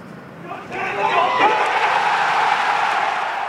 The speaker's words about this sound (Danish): Ja, imens jublen brød ud blandt publikum, så faldt golfspilleren Rory McIlroy på knæ hulkende. 35-årige McIlroy vandt nemlig med slaget her Master Tournament i Georgia i USA